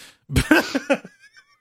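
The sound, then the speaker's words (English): A voice imitates a cat hacking up a hairball: a quick run of four or five gagging, retching hacks, loud, trailing off into a faint squeaky wheeze. “Why'd you cough up a blue hairball on me, oh ma'am?”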